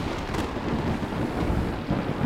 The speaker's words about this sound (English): Suddenly, dark clouds appeared over the camp of the Guru. There was a loud thunder and crackling lightning as the forces of destruction were sent towards Guru Tegh Bahadur and the Sikhs.